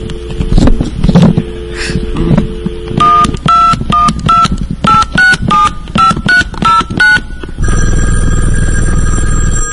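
A rapid series of about ten DTMF touch-tone dialing beeps on a Vonage phone line, each a short dual-pitched tone in quick rhythm, followed by a steady dial tone, heard clear over some background noise.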